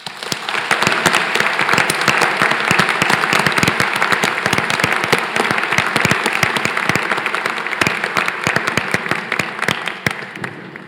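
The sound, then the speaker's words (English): A crowd applauds the 2023 graduates steadily for about eleven seconds, a dense, even wash of many hands clapping with sharp individual claps standing out, holding loud throughout and easing slightly at the end. “So let's celebrate the hard work and discoveries of all the researchers among our 2023 graduates with a round of applause.”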